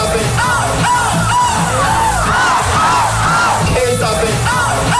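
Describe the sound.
A crowd of people at a seagull-imitation contest imitating seagull calls, even singing a seagull song, with repeated arching, rising-and-falling yelps layered over loud, continuous group shouting that never lets up.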